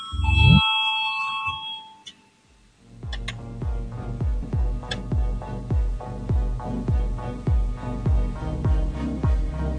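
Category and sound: signal or alarm, parliament voting bell ringing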